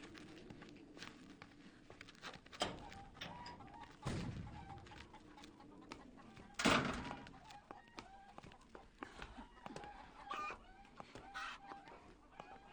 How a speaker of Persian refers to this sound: چقدر مرغ اینجاست؟ گوشتی هن؟ نه، اونا توی سالن بغلی هن.